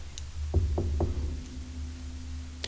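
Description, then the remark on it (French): Three firm knocks on a wooden classroom door in quick, even succession, over a low steady background hum, with no voices. “Bizarre, personne n'ouvre la porte. Bah, attends, je retoque.”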